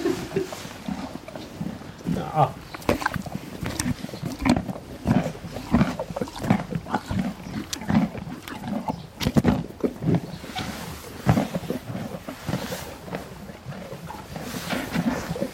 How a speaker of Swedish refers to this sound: matandes hästar med morötter, äpplen och annat godis, så lämnar vi Stora Ekeby.